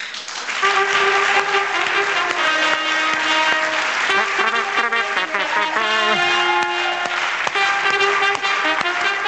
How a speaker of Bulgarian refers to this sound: Моля вашите аплодисменти